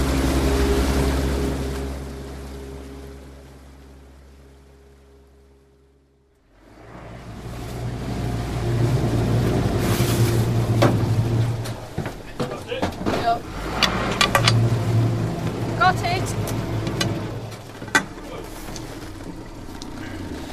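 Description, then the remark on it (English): A motorboat engine on Lake Windermere drones steadily with a low, even hum as the boat motors to the deepest part of the lake to take water samples. It then winds down and falls silent before a stretch of clattering, splashing and indistinct movement noises. “We're going to stop now and motor on up to Windermere, to a place where we're going to take the water samples, the deepest part of the lake, probably the coldest part of the lake as well.”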